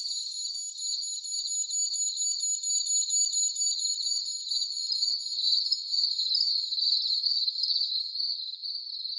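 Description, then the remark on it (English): A shrill, high-pitched alarm blares without pause, a steady piercing tone with a faint rapid warble, loud and unbroken for the whole stretch with no voices. “An alarm obliterates thought.”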